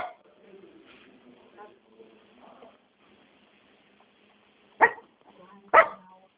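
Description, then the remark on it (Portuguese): A small dog barks twice during a phone call, two sharp, loud yaps about a second apart, following a stretch of faint, muffled talking in the background. “Tem gente brava aí no fundo, hein? Ah, meu cachorrinho. Tá bravo.”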